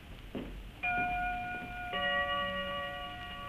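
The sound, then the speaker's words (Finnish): A clock strikes twelve; two clear, resonant strikes are heard about a second apart, each tone ringing on and overlapping, fairly loud over a low background hum, with no voices. “Kännin kello. No se lyö 12.”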